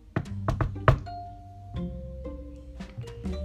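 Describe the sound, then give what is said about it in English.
A few sharp knocks on a door land in quick succession near the start, followed by soft sustained musical tones that carry on afterward at a moderate level. “That's when I heard a knock on the door.”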